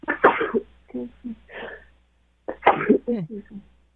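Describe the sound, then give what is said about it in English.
Two sharp, fairly loud sneezes about two seconds apart, each bursting out suddenly and trailing off into short breathy, voiced sounds before quiet returns. “Bless you”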